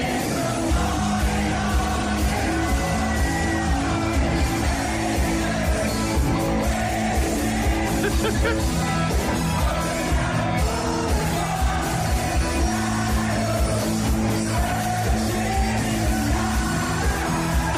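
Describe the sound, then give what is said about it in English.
A big crowd sings along loudly and steadily with Rory McIlroy and a band's singer, many voices blending into one sustained, raucous chorus with music underneath, with occasional yells and whoops. “And if you got a crowd at EP singing that loud, you'd be over the moon.”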